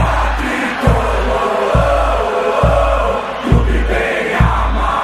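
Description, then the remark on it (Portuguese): A huge crowd of São Paulo football fans chants in unison at the Morumbi stadium, a loud, dense roar of voices riding a steady rhythm, with deep regular thumps landing roughly once every second. “Foi o grito da torcida do São Paulo no Morumbi, hein?”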